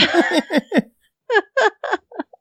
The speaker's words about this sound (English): Excuse me, those damn hiccups are still hanging around.